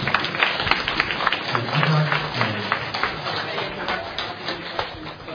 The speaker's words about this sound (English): So, if there are no more announcement, let us give a big applause and rise, and then we thank our friends.